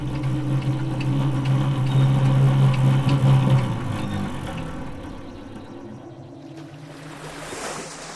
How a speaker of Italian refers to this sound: Dalla risacca alle più terribili burrasche, il mare e le sue infinite e grandiose sinfonie.